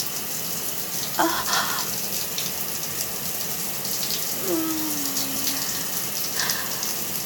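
Shower water runs steadily with a continuous hiss and splatter throughout, broken by a couple of brief higher squeaky tones partway through.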